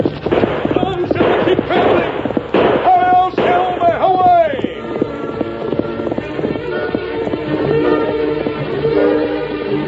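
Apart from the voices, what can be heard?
horse galloping hoofbeats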